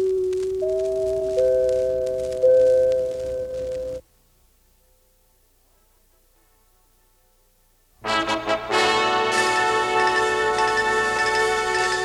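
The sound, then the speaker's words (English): Four bright, sustained NBC network chime tones enter one after another and ring together for a few seconds, then cut off into silence before a loud burst of full orchestral music begins, on NBC's first Fabulous 50 with host Bob Hope. “And since something very special will be happening shortly when I return with more of NBC's first Fabulous 50, I'll leave you with two words, Bob Hope and four chimes.”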